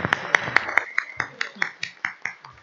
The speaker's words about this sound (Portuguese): Antes de encerrar, eu queria aqui pedir uma salva de palmas aqui para a nossa nova controladora.